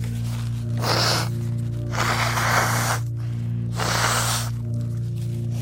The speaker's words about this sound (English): I'm just gonna blow my nose real quick, okay?